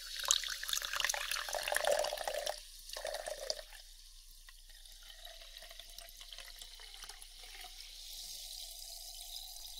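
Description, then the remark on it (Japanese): Sparkling water is poured into a glass, a rushing splash for a few seconds followed by a quieter, steady fizzing and crackle of bubbles as the pour settles. No one speaks. “今、炭酸水をご用意いたします。”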